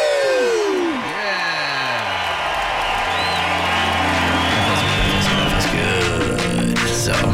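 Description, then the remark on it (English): A group of people cheers and whoops together after chanting 'One more sleep' at the start of the One More Sleep show, in a loud, sustained burst, with overlapping shouts and high voices rising over a dense wash of crowd noise. “So let's just chant those words one more sleep together, and then we cheer, and we'll do it in 3, 2.”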